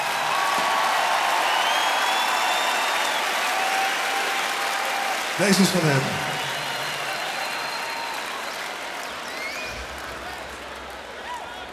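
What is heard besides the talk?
audience applause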